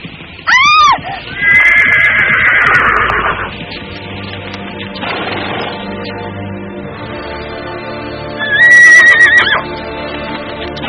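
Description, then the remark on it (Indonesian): A ridden horse, galloping, neighs loudly and shrilly, first a short whinny, then a longer one, and again near the end, before leaping high into the air, over a steady rumbling background that suggests galloping hooves. “Kuda itu meringkik keras sebelum melompat tinggi ke udara.”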